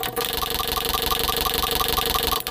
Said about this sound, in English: It is time for this week's Random Wednesday Wheel Spin.